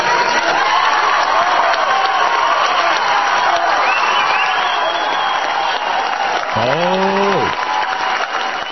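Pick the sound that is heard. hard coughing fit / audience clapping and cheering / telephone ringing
audience clapping and cheering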